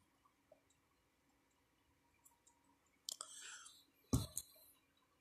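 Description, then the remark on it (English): Someone takes a sip of water: a short wet slurp, then a sharp gulping click a moment later, with faint quiet mouth noises around it and no talking. “Sorry, I just had a drink of water.”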